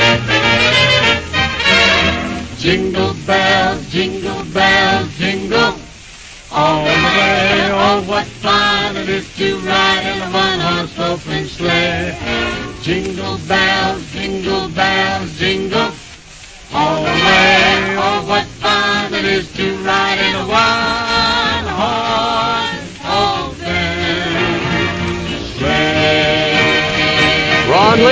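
An old-sounding, muffled 1944 Decca Records recording of a festive Christmas song, with voices singing in close harmony over a lively band, steady and full throughout apart from two brief dips.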